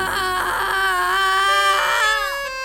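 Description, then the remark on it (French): An infant screams loudly and continuously from the back seat of a Renault 4L car, a high, strained wail with shifting pitch that rises and falls over a couple of seconds without pause. “Soudain de la banquette arrière jaillit un hurlement d'enfer.”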